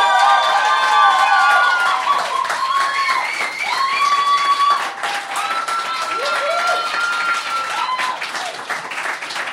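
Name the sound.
audience applause and cheering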